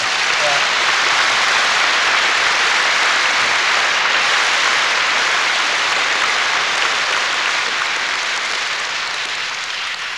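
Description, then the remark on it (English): Sustained applause from a large audience fills the whole stretch, a dense, steady wash of clapping that stays loud and even before easing slightly toward the end. “What I think we would all say, and the applause obviously testifies to it, that you have brought a great enrichment and enlargement of life to many people in the West”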